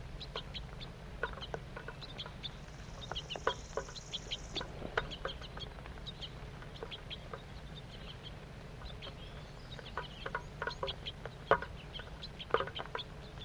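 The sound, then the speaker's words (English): A feeding flock of crossbills, two juveniles and two adults, gives many short, high chip calls, scattered and overlapping throughout over a steady low rumble of background noise, with no voices. “Two juvenile birds and two adults. Stop. Start recording. Feeding's now occurring.”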